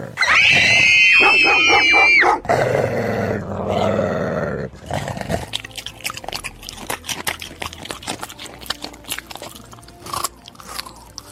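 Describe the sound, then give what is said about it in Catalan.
A dog snarls and growls loudly after a burst of high, strained yelping, then the growl gives way to rapid crunching, gnawing clicks that continue unevenly to the end. No one speaks. “No has escoltat allò dels nens jugant a fet i amagat? No. I el gos?”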